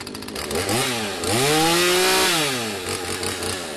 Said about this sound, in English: I do chainsaw carving. I do signs, tikis, easy stuff. It's just fun. I'm trying to get people involved in learning how to do it.